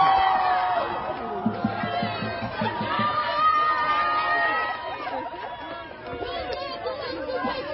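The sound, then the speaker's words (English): A large crowd of protesters at UCLA shouts and cheers continuously while a pinata of Israeli Prime Minister Benjamin Netanyahu is beaten with a stick and punched. Many voices overlap in a loud, excited roar with scattered higher-pitched yells, sustained throughout. “You're going to see one guy come up, grab the Netanyahu pinata and just start punching it, beating it, while everyone cheers.”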